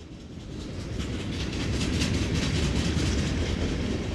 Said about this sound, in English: This is one of about 20 freight trains that roll through the Chicago suburb of Barrington every day. And many of these trains have a lot of older tank cars called DOT 111s. It's a very thin shell. We call it the soda can of rail cars.